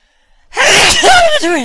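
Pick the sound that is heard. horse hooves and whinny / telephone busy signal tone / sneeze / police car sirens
sneeze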